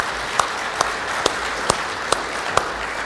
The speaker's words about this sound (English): You beat me to it, but that's what I wanted to do, was to say thank you to them by a round of applause, because they put a lot of hours into making this place look amazing and festive